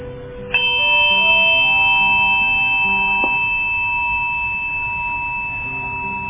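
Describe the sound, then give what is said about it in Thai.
A meditation bell is struck once at the start of a Buddhist mindfulness meditation, its clear metallic tone ringing out and sustaining for several seconds, with a lighter second touch midway as the resonance slowly fades. No one speaks. “เพราะฉะนั้นจากนี้เป็นต้นไปเจริญพรทุกท่านหลับตาเมื่อได้ยินเสียงระฆังดังขึ้นขอให้ทุกคนอยู่กับลมหายใจ”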